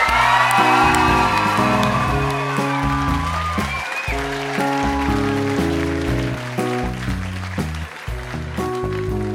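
An audience at a Grownups Read Things They Wrote as Kids event applauds and cheers steadily for a reader and her parents over a bouncy musical sting of stepping low notes, the clapping a dense hiss that stays loud for the whole stretch.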